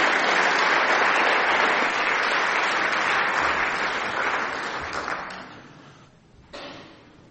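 A crowd claps steadily in dense, even applause that holds strong for about five seconds, then thins and fades, with a brief swell near the end before dying away.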